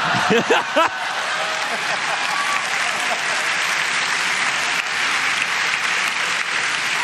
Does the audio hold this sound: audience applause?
yes